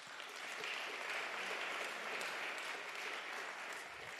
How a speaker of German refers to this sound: Stellvertretend für alle anwesenden Entscheidungsträger begrüße ich an der Stelle namentlich den Präsidenten der Wirtschaftskammer Vorarlberg, Betriebsökonom Wilfried Hopfner. Ich bitte um einen Applaus.